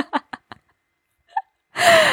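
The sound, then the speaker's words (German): A few quick, catching inhales build up, then a single loud, explosive sneeze bursts out, with no talking around it. “Entschuldigung, normal niese ich nicht so laut.”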